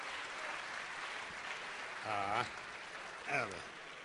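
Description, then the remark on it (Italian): Steady applause from an audience at a Centro Studi Pio La Torre presentation, given for the organiser, fills the whole stretch with dense, even clapping. Two short voiced calls rise above it midway and near the end. “Intanto Intanto un applauso perché organizza, ovviamente segue.”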